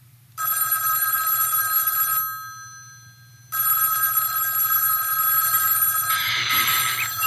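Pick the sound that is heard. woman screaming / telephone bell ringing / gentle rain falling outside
telephone bell ringing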